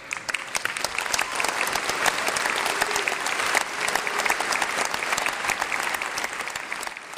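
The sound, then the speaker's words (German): Sustained audience applause, a dense steady patter of many hands clapping at even loudness for several seconds, with no voices rising above it. “Die Leute klatschten.”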